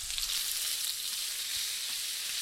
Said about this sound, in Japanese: しっかりフライパンが温まったら鶏を入れていきます。鶏は皮目から入れていってください。火加減は中火にしてじっくり皮目を焼くようにしていってください。